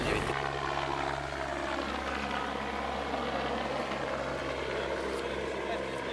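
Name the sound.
helicopter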